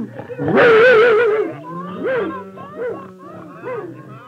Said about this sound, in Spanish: Los animales ya no se escondían para protestar. Chillaban, ladraban, berreaban a plena luz del día junto al roble del patio.